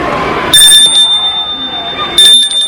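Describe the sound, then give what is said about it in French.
A school bell rings loudly in two bursts in a schoolyard, a shrill metallic ringing that cuts in, stops, then rings again, over a low murmur of background chatter. “La sonnerie retentit.”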